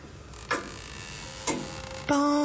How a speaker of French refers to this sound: Pendule impitoyable qui martèle les minutes, ne pourrais-tu pas t'arrêter?